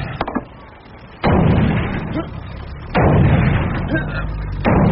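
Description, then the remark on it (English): Three heavy, booming sledgehammer blows strike a thick armor-plated metal door at a slow, steady pace, each loud impact leaving a deep reverberant rumble that fills the gap before the next hit. “Sounds like a sledgehammer. A sledgehammer? That door's armor plated.”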